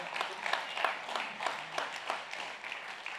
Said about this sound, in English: That's a golf clap. Come on, let's give Jesus praise.